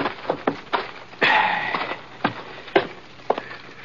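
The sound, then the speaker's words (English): Slow, hollow hoofbeats of a horse named Scar clop along at a walking pace as it is ridden to the hitching rail in front of the sheriff's office in Quiet City and pulled up, with a brief rough rustling burst partway through, and no voices. “Anyhow, I headed Scar over to the hitching rail in front of the sheriff's office and pulled up.”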